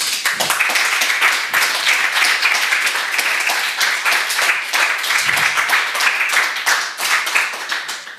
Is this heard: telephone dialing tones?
no